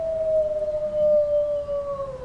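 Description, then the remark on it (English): A wolf pack howling together: a long, steady mid-pitched howl slowly sinking in pitch, with a higher howl rising and falling alongside it, over a low rumbling background and no talking. “You don't want another pack of wolves infringing your space and taking away what you think belongs to you, right?”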